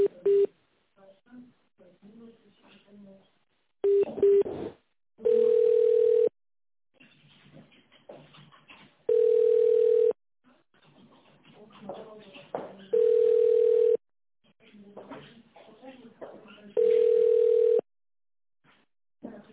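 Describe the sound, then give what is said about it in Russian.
A phone line ringback tone as an office call is being transferred to a colleague who does not pick up: a few short beeps, then four long, steady mid-pitched tones spaced about four seconds apart, with soft murmured talking in the gaps. “Не соединилась. Не взяла трубочку.”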